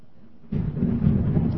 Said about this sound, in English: Wow, did you hear that thunder? Did that come through? We're having a real humdinger.